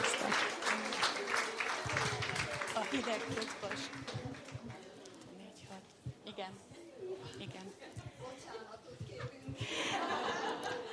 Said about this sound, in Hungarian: Azt hiszem, hogy egy hatalmas nagy tapsot ők is megérdemelnek.